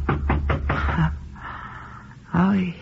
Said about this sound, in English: he knocked at my door.